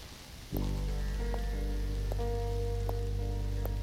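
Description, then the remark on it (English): Steady rain falls on a hard city surface, and a low, constant droning hum cuts in after a brief moment. Soft ticks repeat at an even pace underneath, with no voices present. “I like walking alone at night, especially in the rain.”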